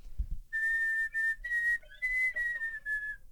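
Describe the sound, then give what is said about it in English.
Soft, airy flute whistle tones: a thin, pure high note held and sliding slightly between nearby pitches, with breathy hiss around it, played with short pauses and no talking. “So I probably start with whistle tones.”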